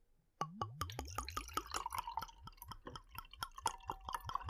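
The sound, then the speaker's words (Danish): Cold sweet wine glugs and splashes steadily from a bottle into a wine glass, a rapid series of bubbly gulps with a rising tone as the glass fills, with no talking. “Du må hælde op.”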